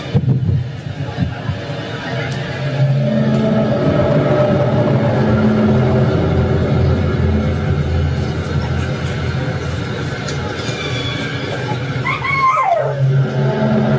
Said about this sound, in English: Even got my dogs barking.